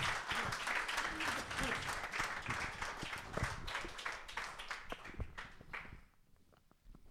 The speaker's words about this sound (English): Guys, can we give these people a round of applause for their honesty? Thank you so much.